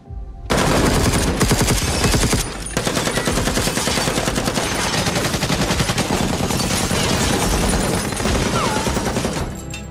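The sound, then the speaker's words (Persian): Sustained, loud automatic gunfire aimed at the windows of a building, with rapid bursts of shots overlapping almost continuously and densely, with a brief pause near the start before the barrage resumes. “اگر مجبور باشیم ساختمون رو از بین میبریم تا روی سرشون آوار بشه و شیشه‌ها شلیک کنین.”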